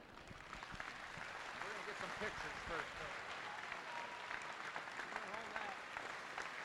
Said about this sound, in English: the crowd will rise and they will give him a standing ovation as he's holding the plaque that was presented to him by his children. And what a neat moment.